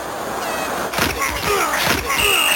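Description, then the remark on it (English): A sports crowd roars in a steady, dense wash of noise, with scattered shouts rising out of it and a few thin, high whistle-like tones near the end. “To answer your first of your three questions, yes, it is a sports game.”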